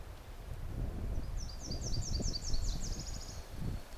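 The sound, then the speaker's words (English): A Tennessee warbler, a little way into a bog, sings a fast, dry three-part song of staccato chips that speed up toward the end, fairly distant, over steady low wind rumble and rustling. “I mean, the bird is not at the edge here. It's a three-parted song. And, gosh, not real musical.”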